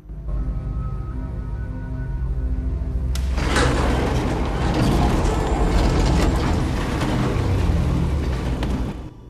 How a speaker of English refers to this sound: The elevator doors open and Father Adam stares out into the cell block.